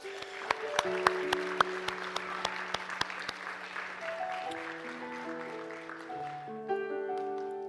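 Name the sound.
church audience applauding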